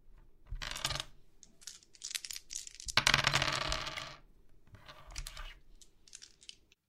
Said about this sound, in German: Die nächste Runde gewinnen Papa und ich. Los, Papa, würfel!